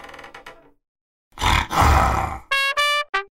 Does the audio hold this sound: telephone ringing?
no